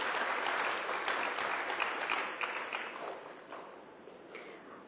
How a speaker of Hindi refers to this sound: धन्यवाद दीदी जी, एक बार जोरदार तालियां दीदी जी के लिए प्लीज।